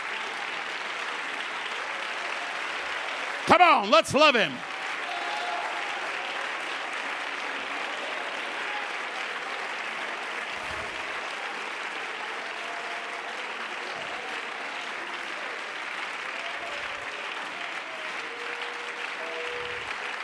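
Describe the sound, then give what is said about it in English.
A standing audience claps steadily in praise of God, a dense, unbroken wash of many hands that lasts the whole stretch. Early on, a man's voice calls out briefly over the clapping. “Let's all stand and clap our hands and praise God together.”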